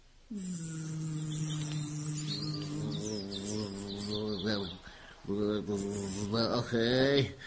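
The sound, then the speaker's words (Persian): A voice imitates a bee's buzz with a long, steady droning hum, then the buzz wobbles and rises in pitch in short swooping bursts before stopping. “براتون بگم وز وزو، زنبور قصه ما خوابش می اومد.”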